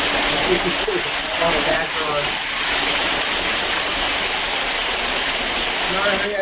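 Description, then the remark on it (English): A steady, dense roar of rushing waterfall water fills the whole stretch at an even loudness, with faint voices briefly audible beneath the torrent. “I'm out by the waterfall.”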